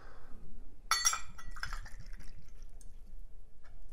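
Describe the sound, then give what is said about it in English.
A double shot of Absolut vodka pours into a cocktail glass with a quick glassy clink at the start, followed by a few seconds of soft, bubbling, trickling liquid sounds that stay fairly quiet throughout. “So first off, we're going to put a double shot of vodka in there.”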